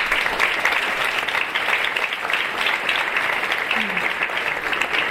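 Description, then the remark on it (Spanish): An audience at the presentation of a music recording applauds steadily for several seconds, a dense, even wash of many hands clapping at once with no break, staying loud from start to finish. “Pido por favor un aplauso para ellos.”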